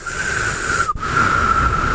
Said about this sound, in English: We're just trying to whistle.